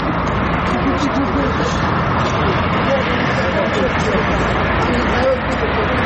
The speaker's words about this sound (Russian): Вдоль бывших тюремных стен едут машины, ходят люди.